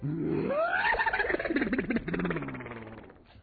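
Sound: horse neighing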